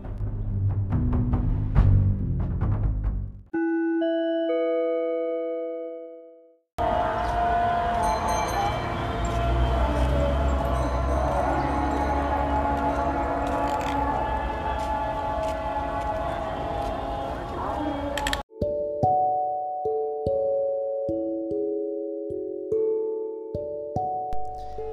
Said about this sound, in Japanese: 今流れた音声はナイル川沿いを散歩中に録音した夕べのアザーンです。アザーンとはイスラム教徒に対する礼拝の呼びかけで、モスクなどに設置されたスピーカーから流されます。